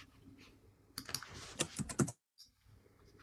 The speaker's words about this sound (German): Wer hat hier das Mikro an? Den höre ich tippen.